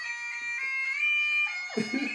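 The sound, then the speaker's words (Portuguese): A famous bagpipe tune plays without a break: a steady buzzing drone holds underneath while a reedy, high chanter line wavers above it, ending with a rougher, fuller swell. “Oi, isso é gata de folha.”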